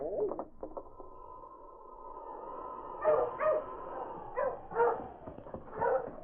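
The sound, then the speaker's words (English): A dog lets out a series of sharp barks in irregular bursts, with a steady high whine or tone running underneath at the start. “Ho! Ho, you dog! Ho!”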